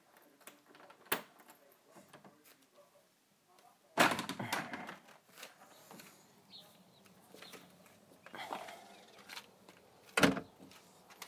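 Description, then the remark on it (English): A door shuts with a loud, sharp thud, followed by clicks and rattling of a lock being worked, and another firm knock near the end, with quiet ambience between. “The door doesn't exactly close very and unlock very quietly.”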